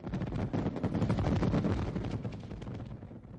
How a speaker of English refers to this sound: The festivities usually end with a brilliant fireworks show.